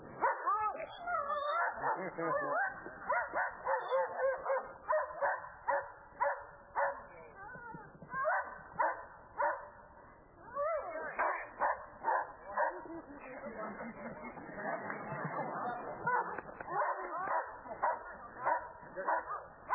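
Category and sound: animal, dog barking and whimpering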